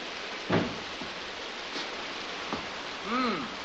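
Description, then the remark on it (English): Steady rain hisses throughout at an even, moderate level, broken by a few brief knocks and a short rising-and-falling tonal sound near the end. “When does the concert start? Just as soon as you and the rain stop.”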